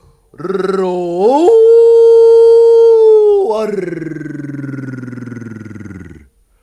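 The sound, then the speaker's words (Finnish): A voice imitates a young lion's roar, one long loud cry that climbs in pitch, holds steady, then drops into a rough, growly tail lasting several seconds, alone. “Karjahdin minä, ja minun tassuni tuntuivat isoilta, ja minusta oli kasvamassa iso poika leijona.”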